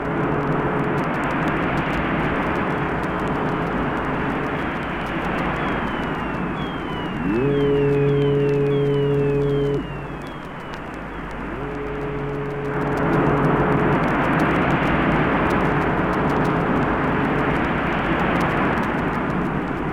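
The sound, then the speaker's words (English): An electronic synthesized seascape: a steady, loud wash of noise like surging sea, broken midway by two deep ship-horn blasts and a few thin, falling gull-like cries. No one speaks. “here from … is a charming evocation of a seascape with gulls, sea, and ships”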